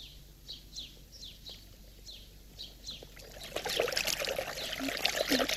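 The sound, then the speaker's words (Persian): Fresh, icy water trickles and splashes from a spring, growing fuller and louder after a few seconds, while birds chirp repeatedly in the background during the quieter opening. “چشمه هورا، بالاخره آب یخ تازه پیدا کردم.”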